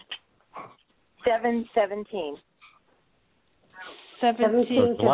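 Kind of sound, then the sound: animal, dog whimpering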